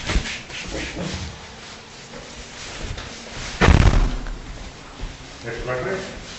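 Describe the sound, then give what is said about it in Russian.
A door swings shut with a single solid thud partway through, amid faint room noise, with people talking quietly in Russian before and after. “Сейчас я дверь закрою.”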